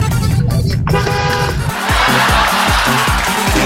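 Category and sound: vehicle, car horn honking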